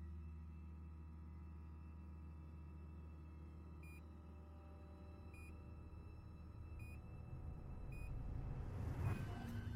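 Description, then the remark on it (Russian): A device gives short, high electronic beeps at a steady interval of about a second and a half, four in a row, over a constant low mechanical hum that swells slightly at the end. “Что аппарат пищит.”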